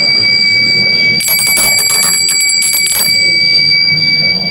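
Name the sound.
alarm bell ringing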